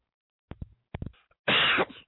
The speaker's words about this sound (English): Excuse me, I didn't mean to cough in your ear. I tried to mute. I went the wrong way.